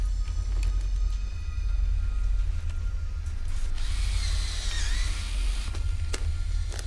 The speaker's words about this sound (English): An officer crouches beside the door and drills through the lock.